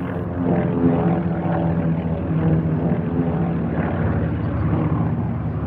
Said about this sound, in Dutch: Een hels kabaal, maar een hels kabaal dat klinkt als een bevrijding. Kees en zijn broers zien een geallieerde luchtvloot overtrekken. Honderden vliegtuigen scheren op nog geen 200 meter boven hun hoofden. operatie Market Garden is begonnen.